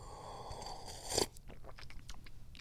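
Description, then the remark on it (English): A cat, Pippa, bites and crunches at paper napkins sitting on the floor, a steady crackling rustle that peaks in a sharp tearing crunch, then continues as softer intermittent crinkles. No one speaks. “Oh, she's attacking the napkins, the paper napkins that are sitting on the floor.”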